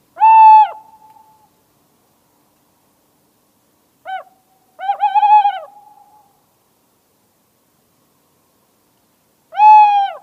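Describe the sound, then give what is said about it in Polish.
A tawny owl hoots clearly in the quiet: a drawn-out hoot, a long pause, then a short note leading into a wavering, quavering call, and one more hoot at the end. No voices. “my posłuchajmy sobie puszczyka z naszej ulubionej strony xenokanto.org przez chwilę”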